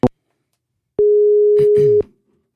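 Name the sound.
telephone call tone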